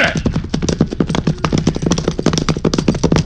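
Rapid, loud hoofbeats of Jack's horse galloping loose, a fast steady clatter of clip-clops continuing throughout without pause.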